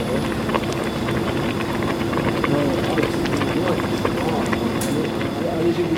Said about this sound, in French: Bon, là, on a beaucoup de frigo et de machines qui tournent, donc c'est difficile à entendre.